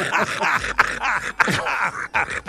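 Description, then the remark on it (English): A grizzly bear grunting: a run of rough, throaty groans and grunts in several loud bursts with brief gaps, pitch sliding up and down, and no talking. “Right now, we believe it's a grizzly grunt, but we don't quite know what is happening with”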